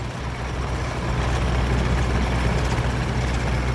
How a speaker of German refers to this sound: Bauarbeiter reißen die Erde auf. Das ganze Haus vibriert.